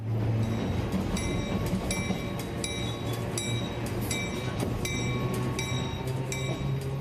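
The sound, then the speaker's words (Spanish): An old electric tram rumbles steadily along its rails, with a low motor hum and sharp metallic clacks repeating at a regular rhythm. It sounds fairly loud, with no voices. “Ya eran algo viejo, entre otras cosas, por la llegada del tranvía.”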